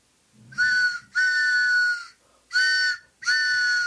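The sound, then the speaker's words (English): A train whistle sound effect, the WBAI radio station's pitching train, sounds four loud, sustained blasts, each a steady, reedy chord that cuts off sharply, with the first two long and the last two shorter, and no voices. “Yes, it's the pitching train. It's the WBAI pitching train coming in again.”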